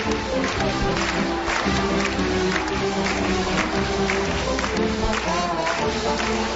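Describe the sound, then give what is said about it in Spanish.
A lively polka plays while an audience claps steadily along to the beat, the rhythmic handclaps blending with the loud, brisk band music throughout as the polka gradually speeds up. “El público animadísimo, claro, animadísimo, como podemos escuchar, con palmas, que no para de acompañar esta polca, que poco a poco, como estamos escuchando, va aumentando en velocidad.”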